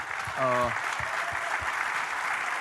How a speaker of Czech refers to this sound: To si zaslouží asi potlesk možná.